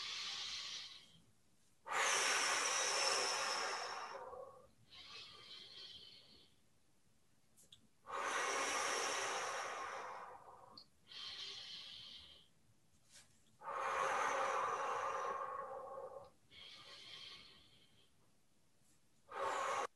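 Slow, deep breaths in a breathing exercise, each long airy inhale and exhale rising and fading in a steady rhythm with brief quiet pauses between, and no talking.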